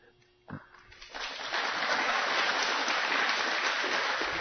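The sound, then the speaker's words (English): An audience in St. Louis breaks into applause for visiting Texans, the clapping swelling over about a second into a dense, steady roar of many hands that stays loud to the end. “We always applaud Texans here.”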